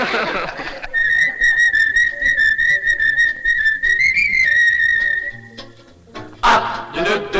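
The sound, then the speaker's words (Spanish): People whistle a long, steady high note for several seconds, rising slightly near the end before fading, followed by a short burst of mixed noise. “Bueno, si no les gusta, no se molesten en silbar, porque para eso ya estamos nosotros.”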